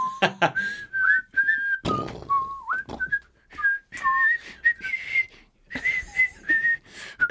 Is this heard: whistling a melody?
yes